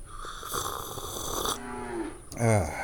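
cows mooing

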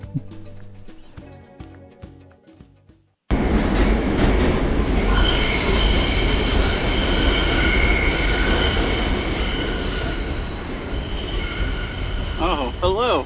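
subway train running

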